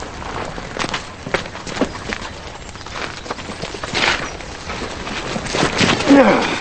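Several horses' hooves clip-clop in an uneven, overlapping rhythm, drawing closer and growing slightly louder over a rough, noisy outdoor background, as Zach, Charlie and the thieves ride on horseback toward people on a road and stop.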